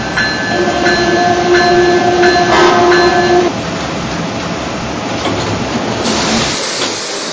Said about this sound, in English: Your attention, please. Now arriving from Eeyore Penn Station on track number 3, Amtrak train number 185.